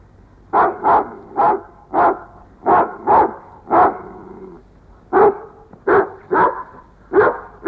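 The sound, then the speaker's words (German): A dog barks repeatedly in quick bursts, often in pairs, loud, with a short pause midway before the barking resumes. No one speaks. “Nun hör endlich auf zu bellen.”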